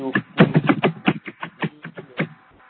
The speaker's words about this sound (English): No, do you want to talk or do you are typing? Somebody is typing.